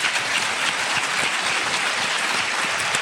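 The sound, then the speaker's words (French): Steady applause from a crowd fills the whole stretch, dense overlapping claps at a constant loud level, with no voices on top, applauding Evelyne Debourg, a school canteen cook and cookbook author. “C'est Evelyne Debourg que l'on peut carrément applaudir.”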